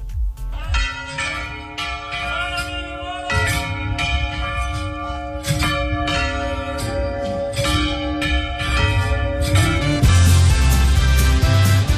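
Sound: manual church bell ringing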